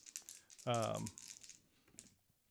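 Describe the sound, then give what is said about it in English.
Small plastic dice, including four-, six-, eight- and ten-sided ones, click and clatter together in a scattered, quick rattle while being scooped up to roll attack damage, with a brief voiced sound from someone partway through. “So I'm gonna have to get all my dice out here.”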